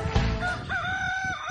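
A rooster crows loudly and close by, a single drawn-out cock-a-doodle-doo with a strained, wavering tone that holds steady before trailing off, with no talking.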